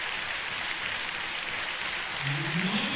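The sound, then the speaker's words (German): A stadium crowd at a WSV football match applauds double goal scorer Jerome Assauer as he is substituted off, in a steady, dense wash of clapping that holds evenly throughout, with a faint rising tone sounding through the noise near the end. “Und wird jetzt hier mit tosem Applaus verabschiedet.”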